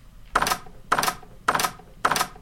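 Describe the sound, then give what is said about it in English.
A video game's closed-door obstacle cue: four sharp, rattling clacks repeating at an even, steady pace, each with a bright, harsh tone and a short decay, with no voices. “A closed door. If you hear the sound, prepare to die.”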